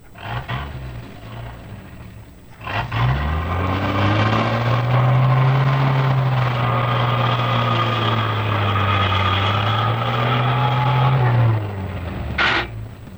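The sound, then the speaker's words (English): A heavy truck engine, on a truck operated by the Gateway Transfer Company of La Crosse, a large trucking company, starts up and runs with a deep, steady rumble, its pitch rising and falling slightly as it idles and revs for about ten seconds before cutting off. “In this case, it's a truck, operated by one of the nation's largest trucking companies, the Gateway Transfer Company, with headquarters in La Crosse.”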